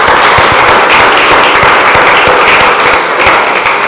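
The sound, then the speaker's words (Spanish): An audience breaks into loud, sustained applause for the Lord, dense overlapping claps forming a steady roar with sharp individual slaps popping through, holding constant for several seconds with no voices. “Dele un aplauso pues al Señor.”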